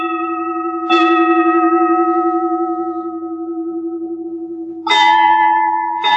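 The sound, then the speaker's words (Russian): Crystal glasses ring out with clear, bright, sustained tones rich in overtones, struck three times: once early, then twice more near the end, each chime slowly fading, with no voices. “Поет, звенит, переливается хрусталь за праздничным столом в руках людей.”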